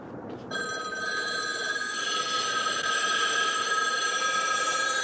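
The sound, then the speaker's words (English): Several payphones ring at once, their bells overlapping into a loud, continuous metallic jangle that starts abruptly after a brief quiet moment and keeps going without pause. No voices. From the opening scene of the film The Omega Man, where Charlton Heston, alone in a downtown Los Angeles intersection, imagines all the payphones ringing. “My favorite scene in The Omega Man is right at the very beginning when Heston, standing alone in a big intersection in downtown Los Angeles, imagines that all the payphones start ringing.”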